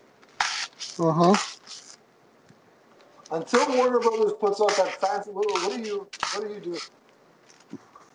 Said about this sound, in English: I'm just taking out my frustrations on styrofoam with a pair of scissors at just this whole freaking scenario. Sorry, I didn't know it was that loud. Sorry, folks. Stop stabbing.